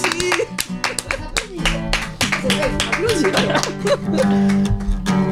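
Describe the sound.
A burst of lively applause for a player winning the first point in a game, many hands clapping fast and unevenly, with voices calling out and talking over it throughout.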